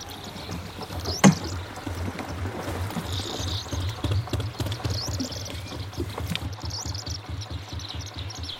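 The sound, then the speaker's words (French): A rowboat moves steadily across water, with rhythmic sloshing and splashing from the oars, a sharp wooden knock near the start, and faint bird chirps in the background. “Voyons si ce bateau est aussi solide que dans le temps.”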